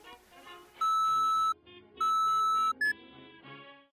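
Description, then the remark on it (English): Phone message tones: two long, loud electronic beep tones with a steady pitch, separated by a short gap, followed by a quick high chirp, all over a faint background of soft music-like tones. “There won't be a message from her or anything, just the tones.”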